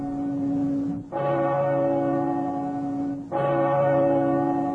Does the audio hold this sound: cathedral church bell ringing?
yes